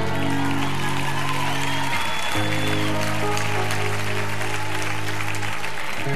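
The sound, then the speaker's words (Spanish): A large audience claps loudly and continuously for about six seconds, a dense wash of applause over sustained musical chords that shift partway through. “Y que les vamos a dar el aplauso más grande del mundo.”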